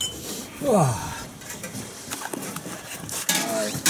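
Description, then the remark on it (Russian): Dishes clink and clatter while a drink is poured at a small restaurant, with scattered sharp taps and a brief rising, tonal squeak early on amid a busy background bustle. “Здесь разливают.”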